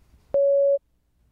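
A single steady electronic beep signaling the start of answer preparation in a spoken test, a pure mid-pitched tone lasting under half a second, loud and clean against near silence with a sharp onset and quick cutoff.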